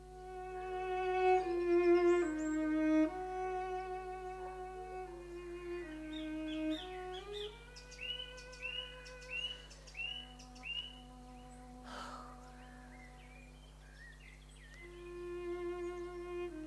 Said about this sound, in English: On Monday, in the Surrey Woods, the BBC will make an effort to broadcast the Nightingale to all parts of the country.